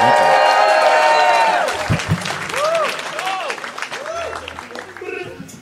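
A crowd at the Soundspace live music event applauds loudly for a band about to perform, with a dense patter of clapping mixed with shouted cheers and rising-and-falling whistles; the cheering is strongest at the start, then eases into steady clapping.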